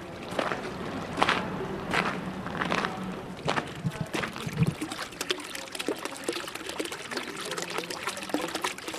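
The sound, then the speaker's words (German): Water splashes and trickles steadily from a fountain in the courtyard of the Malle house in Geneva, with scattered sharper drips and a few footstep-like knocks. “Im Hof des Hauses Malle plätschert Wasser aus einem Brunnen.”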